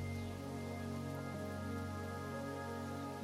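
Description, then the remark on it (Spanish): Steady, soft rainfall with a light breeze hisses continuously, blended with a sustained, calm musical drone beneath it. No voices; the wash stays even and unbroken throughout. “Siente cómo, cuando alzas la mirada, la lluvia roza con una ligera brisa todo tu rostro.”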